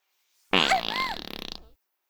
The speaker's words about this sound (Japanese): 従者におならでしつけられて、お分かりですか？おならですよ。